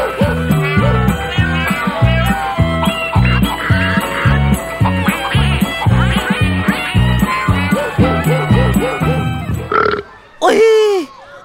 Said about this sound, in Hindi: फिर 1 मुर्गी से हमने गिने 7 पक-पक